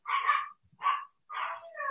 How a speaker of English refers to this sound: I'm sorry if you can hear all of that. The dogs decided to go crazy. Hang on a second.